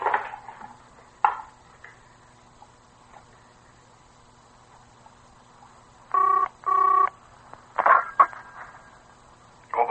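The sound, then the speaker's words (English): A telephone in an office is dialed: two short, steady electronic tone bursts in quick succession, framed by sharp clicks and clunks of the handset being handled, over a quiet hum. “May I use the telephone, Doctor?”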